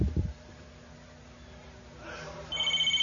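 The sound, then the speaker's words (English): After a brief low thump and a stretch of quiet hum, the landline telephone at a shack starts ringing as its private number is called, a loud, rapidly trilling ring that continues to the end. “why don't you call the private number at the shack here once”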